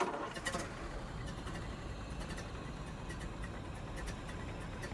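A car engine turns over and settles into a steady, low idling rumble, with a few faint clicks early on and no voices.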